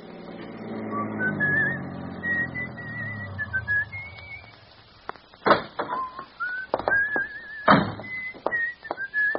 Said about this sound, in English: In fact, he whistles a pleasant tune as, on the outskirts of Smithville, he stops at a tavern.